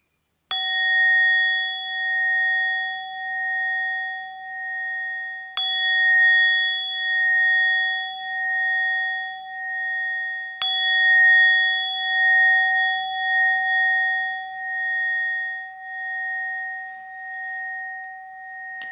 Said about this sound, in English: So the instructions for the meditation will follow, and the meditation will start with three rings of the bell.